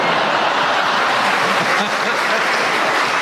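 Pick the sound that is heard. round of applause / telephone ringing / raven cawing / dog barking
round of applause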